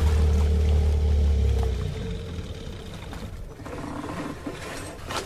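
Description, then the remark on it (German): A loud, low motorboat engine drones steadily, then winds down and cuts out after a couple of seconds, leaving softer splashing water and rumbling noise behind. “Peter sagt, du sollst das Boot stoppen. Sofort!”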